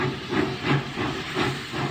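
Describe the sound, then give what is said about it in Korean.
A steam locomotive hisses steadily, with soft rhythmic puffs of steam rising and falling every fraction of a second, moderately loud, with no voices. “영국에서 세계 최초로 철도가 개통됐습니다.”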